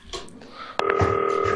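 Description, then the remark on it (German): A sharp click, then a steady, fairly loud two-pitched phone tone of a FaceTime call ringing Lasse Rosenbohm, holding without a break until the end. “Zack, Hörer beiseite, klingelt und dann geht das hier gleich los.”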